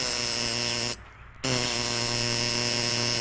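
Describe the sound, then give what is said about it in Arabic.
A door buzzer sounds in two long, harsh, steady electric buzzes split by a brief half-second pause, loud and rich in overtones, with no voices. “لماذا لا يفتحون الباب؟”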